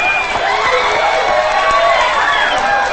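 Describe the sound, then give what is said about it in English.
An audience at a bar applauds a singer's performance, her mother among them, steadily and loudly, the clapping blended with cheering and overlapping crowd voices, sustained throughout without a break. “As Cass smiles at the audience, she spots her mother, who applauds.”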